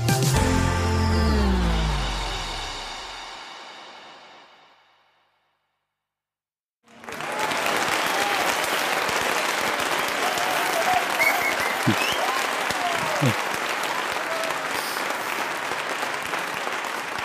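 A fading musical sting gives way to silence, then an audience at the premiere of the Cupra Tavascan, a fully electric SUV, bursts into sustained, dense applause as a presenter comes on stage, keeping a steady loudness for about ten seconds, with a few faint whoops rising above the clapping.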